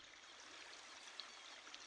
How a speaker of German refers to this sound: Du bist jetzt an Bord. Du entschließt dich, die Leinen loszumachen. Du nimmst das Steuerruder in die Hand und fährst los. Du hörst das Rauschen der Wellen.